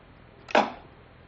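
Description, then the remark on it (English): A single sharp thwack as an arrow shot from a bow slams into a target, a brief whoosh leading into a solid impact that fades quickly. “So, I have here a bow and arrow.”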